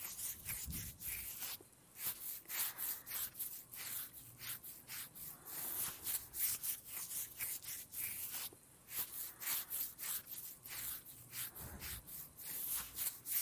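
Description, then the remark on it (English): Soft, steady scratching of someone's head as it rests on a chest, quick repeated strokes in a fairly even rhythm of bright, hissy rubbing with brief pauses, quiet and without any voices. “Do you like it when I scratch you like this?”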